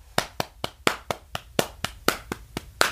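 A steady beat slapped on the thighs: about a dozen sharp, quick slaps at an even, brisk pace, with some hits landing harder as accents. No voices are heard.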